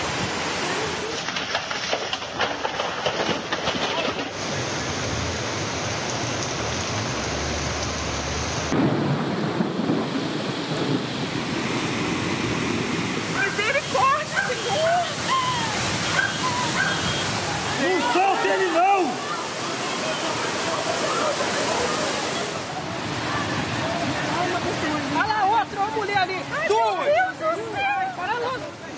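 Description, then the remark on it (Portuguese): A heavy rainstorm roars alongside rushing floodwater, a loud, dense, continuous wash of noise, with agitated voices calling out over it at times and occasional rumbles in the background. “Esse ano as chuvas devastaram Petrópolis, regiões da Bahia, Minas, São Paulo.”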